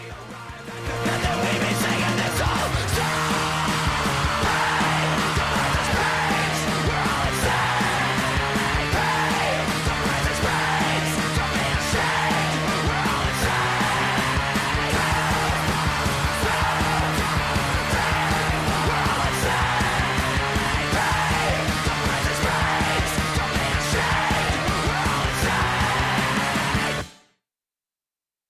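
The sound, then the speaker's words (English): A loud, driving punk rock song plays steadily at full volume with dense, distorted instrumentation, then cuts off abruptly just before the end. “The song is ending and my microphone is off.”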